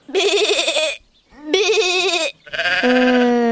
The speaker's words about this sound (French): Le son de la brebis.